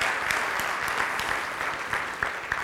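A crowd claps steadily for a few seconds, a dense wash of many hands with occasional sharper individual claps popping out, fairly even in loudness throughout.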